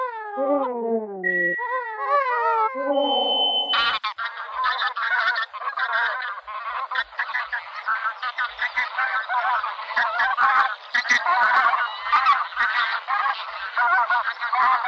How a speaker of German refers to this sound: Also ich wollte euch eigentlich heute ganz unspektakulär von einem Vogel erzählen, den ihr ja letztlich alle schon mal gesehen habt, nämlich in so V-Form zum Beispiel über die Stadt fliegend und tierischen Krach machend, die Saatgans.